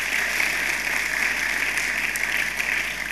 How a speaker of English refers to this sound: Another round of applause for him.